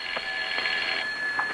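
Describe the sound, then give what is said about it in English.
A telephone in a guest's room rings with a bright, buzzing bell tone as a call is put through, sounding for about a second, then stops, leaving a faint hum. No voices are heard. “We keep ringing.”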